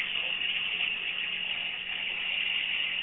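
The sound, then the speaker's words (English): Water gushes steadily out of Lewis Meek's original well in a continuous, hissy rush that stays at an even loudness throughout, with no pauses and no voices. “And the water that comes out of Lewis Meek's original well is only good for some bizarre science experiments and brain-altering recreational activities.”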